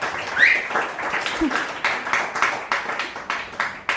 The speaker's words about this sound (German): Einmal bitte Applaus.